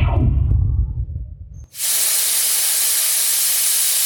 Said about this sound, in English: And now, something else has dropped from the sky and there's nothing but steam coming up.